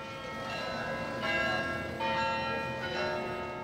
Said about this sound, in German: 4-mal in der Stunde lässt der warme Glockenklang der Westerkerk die Amsterdamer wissen, dass die Zeit niemals stehen bleibt.